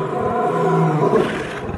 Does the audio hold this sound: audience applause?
no